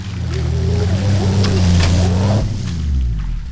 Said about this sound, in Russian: И услыхал, как заревел двигатель, а потом волна грязи вздыбилась и упала на ветровое стекло. Двигатель вновь дико взвыл и заглох.